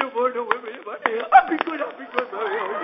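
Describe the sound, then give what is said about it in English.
A series of sharp, loud spanking slaps, about five or six at irregular intervals, cracking over a continuous pleading, wailing voice on a thin, band-limited recording. “Don't whip me no more.”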